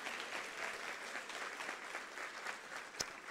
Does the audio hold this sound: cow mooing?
no